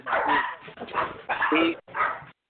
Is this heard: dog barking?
yes